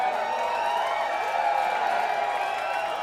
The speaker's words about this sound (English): Thanks for coming out, Phoenix. This is a new area for us. It means a lot to see all your smiling faces raging. Thanks for that big old cheer.